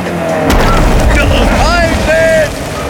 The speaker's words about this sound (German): In diesem Moment krachte der zweite Schuss.